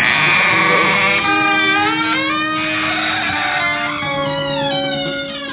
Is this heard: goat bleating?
yes